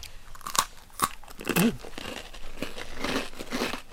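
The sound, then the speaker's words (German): Crisp crunching as people bite into a darker, classic Christmas cookie made with lard, almonds and cloves. A few sharp bites are followed by steady chewing and crumbly crackling, with no talking. “Wir beißen mal rein.”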